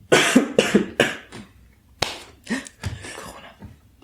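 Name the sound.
coughing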